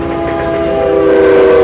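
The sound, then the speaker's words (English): A train to Seattle rumbles along with a steady, sustained whistle-like tone ringing over it, growing slightly louder across the short stretch, with no voices. “Last call for the train to Seattle.”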